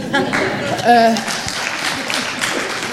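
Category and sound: crowd, brief applause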